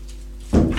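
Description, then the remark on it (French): An apartment door on the first floor of a small building thuds shut: one dull, solid knock after a moment of near-silence, with a short rumbling tail. “Une fois que la porte est fermée derrière lui, il la prend dans ses bras et l'embrasse.”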